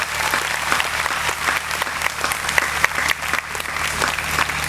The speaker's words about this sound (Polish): Nie możemy nie klaskać.